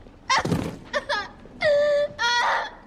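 A woman sobs with a breathy, choked burst and two short catching sobs, then breaks into two long, high, wavering wails, fairly loud and with no other voices.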